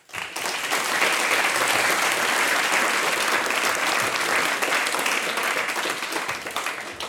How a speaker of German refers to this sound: Ja, und unter den Gästen da im Saal ist auch der Herr Bürgermeister Stefan Holt. Lieber Stefan, komm auf zu mir, der Applaus gehört jetzt dir.